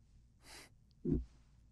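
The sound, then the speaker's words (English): A soft, airy breath draws in, then a single short, thick nasal snort bursts out, low and rumbly, as if forced through a congested nose. No talking. “I feel like there's a booger breathing up and down in my nose.”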